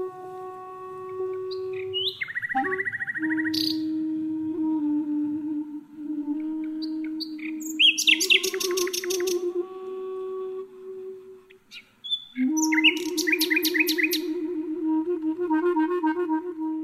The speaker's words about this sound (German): spielt aus New York live ein Duett mit einer Nachtigall im Gebüsch des Treptower Parks in Berlin. Mensch und Vogel virtuell verbunden.